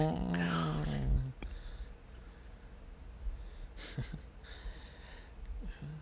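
A puppy growls loudly for about a second, then quieter snorts, sniffs and huffing breaths follow in bursts with no talking.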